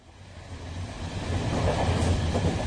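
Steady rumbling inside a moving train carriage on a train to Newcastle, with rails clattering rhythmically underneath and the noise gradually building louder; no voices.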